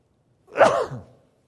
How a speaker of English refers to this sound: Good thing I had a microphone on, right? That's what you can hear, I'm sneezing.